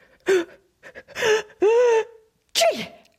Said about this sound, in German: Dann musste er plötzlich niesen.